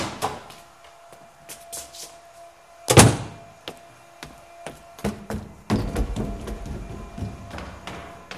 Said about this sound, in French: Le changement de plan cuisine-escalier se fait sur la fermeture de la porte.